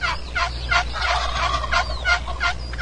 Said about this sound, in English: Little box call action.